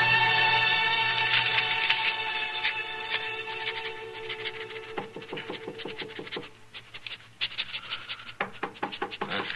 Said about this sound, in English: Well, folks don't usually bother to knock at this office.